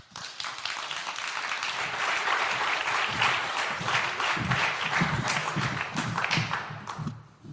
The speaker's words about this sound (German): Bitte kommen zu mir auf und einen herzlichen Applaus.